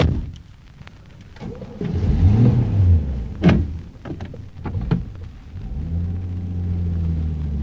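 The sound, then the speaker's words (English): A car engine cranks with a few sharp mechanical clicks and clunks, then catches and settles into a steady idle rumble that holds to the end. “Well, at least the wretched policeman hasn't found it yet. Well, here goes.”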